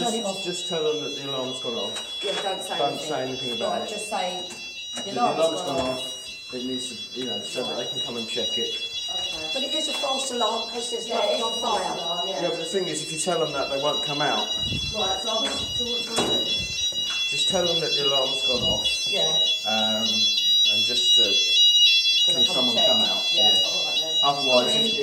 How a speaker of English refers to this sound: Yeah, just phone the fire brigade. Say that the fire alarm has gone off.